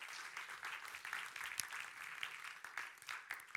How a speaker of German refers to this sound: Vielen, vielen Dank den Freiwilligen. Ich könnte Ihnen doch schnell einen Applaus geben.